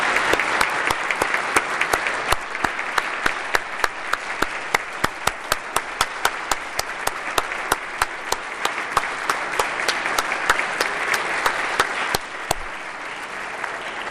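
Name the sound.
audience round of applause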